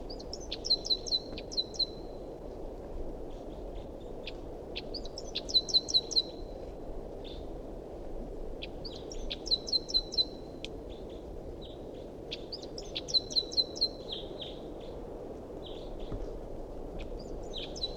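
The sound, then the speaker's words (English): A wild bird calls in repeated bursts of high, bright chirping notes about every four seconds, each phrase a quick trill, heard over a steady low rumble of background noise with no talking. “Recording a wild bird.”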